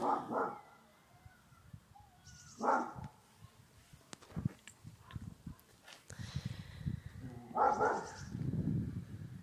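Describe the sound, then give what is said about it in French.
A big dog barks a few times with long pauses between, the deep barks over a low rumbling background with scattered knocks. “me fait flipper parce que j'ai peur des gros chiens.”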